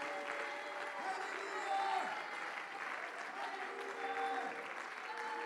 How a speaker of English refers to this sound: Oh, somebody just clap your hands and give God a shout of praise right now.